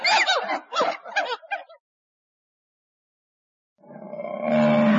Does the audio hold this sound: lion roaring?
yes